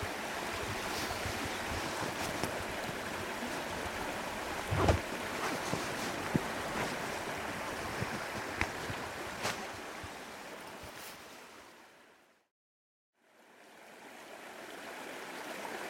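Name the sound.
flowing river water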